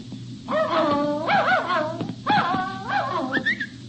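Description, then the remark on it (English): A dog named Cinder, a male pup, lets out a series of high, wavering whines and yelping barks in two bursts, with a constant low hum running underneath, outdoors in cool fog near a campus bell tower. “You're a nice dog.”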